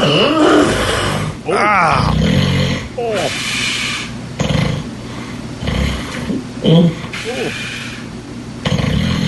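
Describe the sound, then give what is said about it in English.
Harsh, raspy growls and snore-like grunts from a sleeping person with sleep apnea struggling to breathe repeat in loud bursts, broken by strained, rising vocal cries that sound like choked screams. “I believe we're right around fart/sleep growl. Let's just go ahead and play it raw. Oh, yeah, don't skip that sleep apnea scream.”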